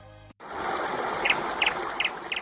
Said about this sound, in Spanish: Ay, qué bien le viene el veranillo este a nuestro pajarico favorito. Mira, escucha, escucha.